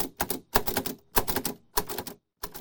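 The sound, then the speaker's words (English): Quick bursts of mechanical typing on a Braille typewriter, clustered clattering keystrokes with short pauses between groups, fairly loud, with no voices. “A special Braille typewriter she uses for work and for her poetry.”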